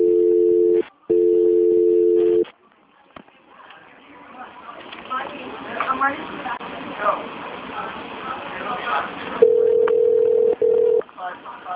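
Two steady electronic ring tones on a phone line calling 319, separated by a brief gap, give way to muffled, rumbling background noise before a single flat tone sounds again near the end.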